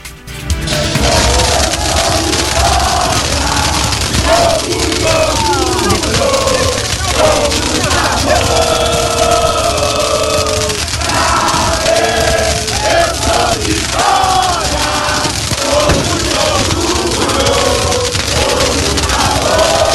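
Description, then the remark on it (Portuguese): A large stadium crowd of Vitória football fans at the Corredor Rubro-Negro chants and roars together, a dense, continuous wall of voices with rhythmic swells of singing and shouting, loud and sustained throughout. “Tem um ouvinte que mandou vida no meio ontem da torcida do Vitória do Corredor Rubro-Negro, não foi?”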